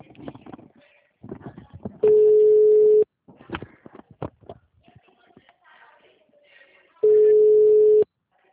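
Two loud, steady one-second beeps of an outgoing phone ringback tone, several seconds apart, with soft background voices and shuffling in the gaps.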